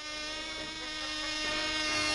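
The tiny model airplane of Frenchman Jarry Delage whines with a steady, high-pitched buzz in a speed contest, reaching 248.2 km/h, growing slightly louder and shifting in pitch as it speeds past. No one speaks.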